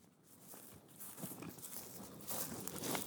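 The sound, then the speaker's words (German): Footsteps crunch over a dry, brittle lakeshore as people walk together from a jetty, in an uneven walking rhythm, each step a soft gritty crackle with hissy texture, growing slightly louder toward the end. No one speaks. “Man hört es eher knirschen als platschen.”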